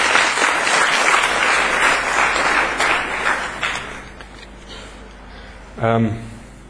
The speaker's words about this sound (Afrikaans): Geef vir die Here 'n groot hande klap.